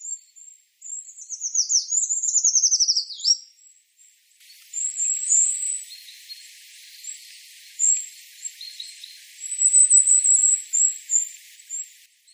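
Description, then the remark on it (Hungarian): Eurasian treecreeper calls: thin, very high, sibilant notes, with an early run of quick descending trilled chirps, then repeated faint wispy calls in short bursts, with no one talking. “ezt nem fogom tudni utánozni, de hogy majd bejátszhatjuk, de hát a hegyi fakusz az egy kicsit ilyen szipogósabb hangot ad.”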